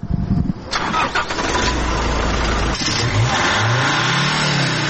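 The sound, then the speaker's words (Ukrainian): A pickup truck engine cranks and catches, then revs with a rising, throaty growl as the vehicle pulls away, the pitch climbing and falling through gear changes. It is the 82nd 'bandera-mobile' pickup, a fast off-road vehicle for reconnaissance, being sent off to the front line. No one speaks. “І от на ноль відправляється 82-й бандеромобіль.”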